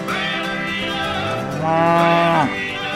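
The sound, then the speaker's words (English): A cow moos twice: a long, droning low followed by a louder, fuller call that swells and then drops off abruptly. No one speaks. “There is a cow standing in front of him.”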